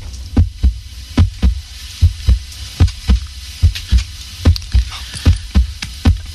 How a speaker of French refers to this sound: Voici maintenant le bruit du cœur. Donc, on l'écoute, puis à vous de trouver comment il a été enregistré.